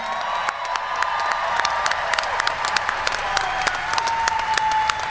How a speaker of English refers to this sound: How about a big round of applause for our Marines?